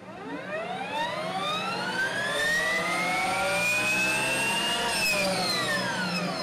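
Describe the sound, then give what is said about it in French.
A high, tonal motor whine from a Harley-Davidson Project Livewire, a motorcycle running only on electricity, climbs steadily in pitch as it accelerates, holds near its peak, then eases slightly at the end; loud, with no voices. “La légendaire marque Harley-Davidson a sorti fin juin un engin futuriste, une moto qui fonctionne uniquement à l'électricité.”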